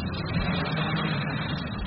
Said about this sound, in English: So we will run a wave for you now. First, you'll hear the big engine that makes the wave and sends water through the tank.